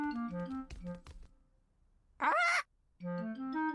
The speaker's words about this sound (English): Granny Pig and Grandpa Pig have a pet parrot. Peppa, George, this is our pet parrot. She's called Polly.